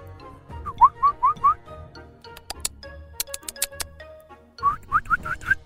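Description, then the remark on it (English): A person whistles short rising chirps, four quick notes, then a pause filled with clicks and ticks, then four more chirps, mimicking a bird's call. “I don't have a bird effect. I was trying to help. I was trying to be a bird.”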